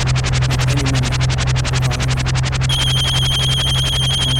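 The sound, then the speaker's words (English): A loud electronic telephone ring trills rapidly and continuously for several seconds over a steady low hum, with a sharper, higher tone joining partway through. “Hold on, let me get the phone.”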